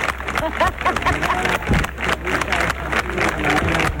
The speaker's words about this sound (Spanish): Son los aplausos de los subsecretarios y subsecretarias que ya están instalados en esta tarima con una alfombra de color rojo que fue instalada ayer